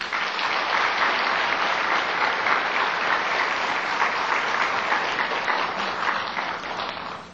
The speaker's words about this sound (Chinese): 诚敬最热烈的掌声恭请上清下海法师为我们开示。